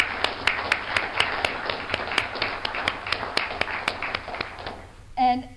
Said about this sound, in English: So I think that they all deserve a round of applause for having done that.